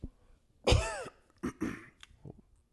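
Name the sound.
cough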